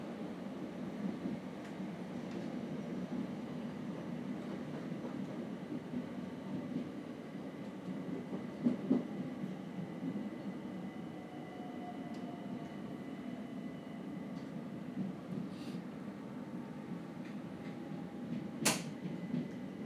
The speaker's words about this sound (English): coming up to midnight, and the corridor between this carriage and the next one keeps squeaking, and it almost sounds like it's singing. So I thought I would record it.